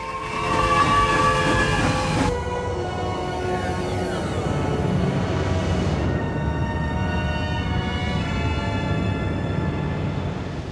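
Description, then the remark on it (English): A train brakes and slows as Data manhandles its heavy throttle and brake levers, its heavy steady rumble loud beneath sustained high metallic squealing tones that shift and fade over several seconds, with no voices. “As Data manhandles the heavy throttle and brake levers on the train, the Enterprise slows as it approaches the nebula.”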